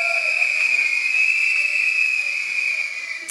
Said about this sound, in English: How many people come from clitoral and vaginal stimulation? Can you blow your whistle?